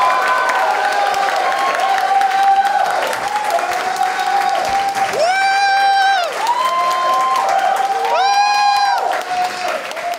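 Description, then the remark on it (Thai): The audience at a stand-up comedy show claps and cheers loudly and steadily for the whole stretch, with whoops and shouted cheers rising above dense applause. “ขอเสียงปรบมือดังๆให้กับ”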